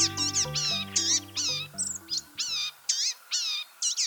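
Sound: blue-gray gnatcatcher calls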